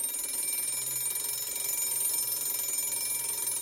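A school bell rings continuously, a steady, shrill metallic jangle that holds at an even level for the whole few seconds, with no voices over it.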